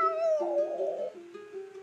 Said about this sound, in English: Unbeknownst to the young couple exiting their apartment, the night chill gusted past them in the alley. Slight howl